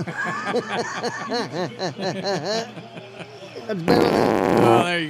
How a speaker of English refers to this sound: It's better. That one tastes like corn on cob. Yeah, it's better than them vagina farts.